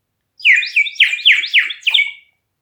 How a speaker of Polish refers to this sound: Witam się z wami jak zwykle w dobrym tonie. W tonie, jaki wydaje mój gliniany kogucik.